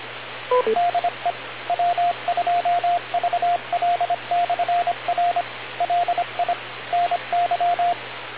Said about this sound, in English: That sounded like Morse code.